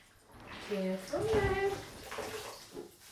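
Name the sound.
water splashing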